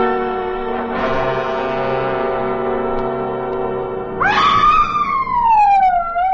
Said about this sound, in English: I was sure I was being attacked by a mountain lion until I realized that it was fully clothed. It was Polly who had screamed and thrown herself on the floor by my side.